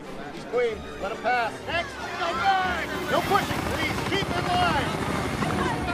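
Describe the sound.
A helicopter's rotor thrums steadily overhead at a city's gates, its chopping pulse running under the loud, anxious babble of a crowd of thousands of people shouting as they surge to get out of the city.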